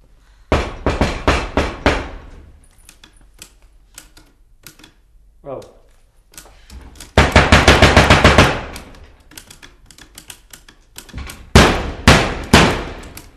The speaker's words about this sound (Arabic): سيدي المدير واش راك دير؟ راك دقدق في المكتب تاعي مبالك مهبول، لكن احنا نعطي درس الحيوان هذا باللي كي ندقدق في الباب تسمع.